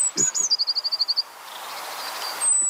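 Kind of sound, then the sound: bird, eurasian blue tit song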